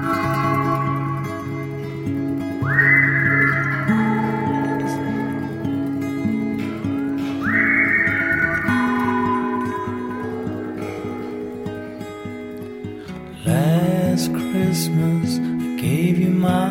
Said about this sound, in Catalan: Si ara aquí tiràvem de campanetes, anem a tirar de xiuladissa.